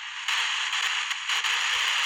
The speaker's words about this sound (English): Well, I think you've heard enough static and we've gotten a few words from the spirits. If you believe it or not, it's just an app on a cell phone.